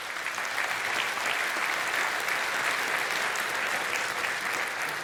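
Steady applause from an audience fills the whole stretch, a dense, even patter of many hands clapping at once with no speech over it.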